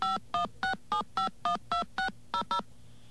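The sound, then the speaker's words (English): Ten touch-tone keypad beeps dial out the phone number for 2600 Magazine into an automated phone system, in a steady, even rhythm, each a short, fairly loud dual-pitched tone, with the last two slightly quicker. No voices. “All right, we're just going to enter the number for 2600 Magazine.”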